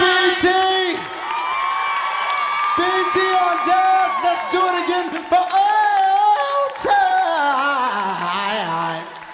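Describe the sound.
A large crowd in a room screams and cheers loudly at night for several seconds, answering a call for everybody to scream, shrill overlapping voices rising and falling together in one sustained, excited roar.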